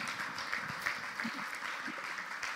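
A steady round of applause from a group after a reading, dense overlapping claps forming a continuous crackling wash at moderate loudness, holding even for a couple of seconds with no talking over it.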